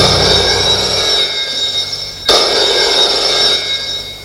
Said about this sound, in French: Le téléphone sonne.